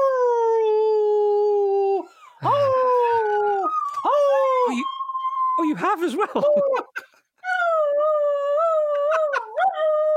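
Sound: dog howling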